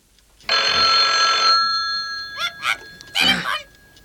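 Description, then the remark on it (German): An old-fashioned telephone bell rings once in the three detectives' headquarters, loud, a bright metallic jangle whose tone lingers and fades, followed by a few short bursts of a raised voice calling "Telefon!" “Die drei Detektive saßen in ihrer Zentrale, als das Telefon klingelte.”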